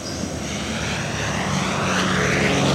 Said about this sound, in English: An American bomber roars just over the jungle treetops bordering a long stretch of beach. Birds scatter, monkeys shriek. The Douglas B-26 Invader was one of the most ferocious fighting aircrafts in both World War II and the Korean War.